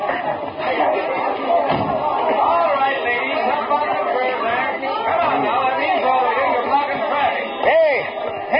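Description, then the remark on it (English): A commotion of a crowd on a downtown city street, many overlapping voices chattering at once, a dense, steady babble with no single speaker standing out, briefly punctuated by a dull thump early on. “Something must have happened. Look at that crowd.”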